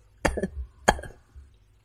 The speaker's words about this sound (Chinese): 说完轻轻地咳嗽了几下